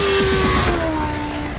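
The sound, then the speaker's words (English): The engine of the new BMW M 1000 RR motorcycle revs loudly at its world premiere unveiling, its whining pitch peaking early then gradually easing down as the throttle comes off, with no voices present. “Judging by the sound of the engine, you'll have guessed that this is the one where the incredible new MRR was unveiled.”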